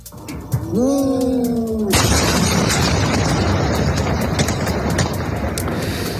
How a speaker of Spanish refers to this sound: Y no dejamos Latinoamérica porque también es noticia de esta misma noche la tremenda explosión que se ha producido en la ciudad argentina de Ezeiza.